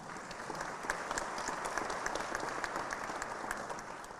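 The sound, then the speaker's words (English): Steady, dense applause from the Trinity audience for the speaker's wife, many hands clapping at once in a continuous rush of sharp, overlapping claps that holds an even loudness throughout with no voices. “But as I was saying, you need to applaud her even more because she's been putting up with me for 31 years.”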